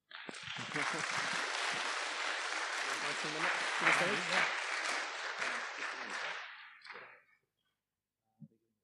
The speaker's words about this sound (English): Round of applause.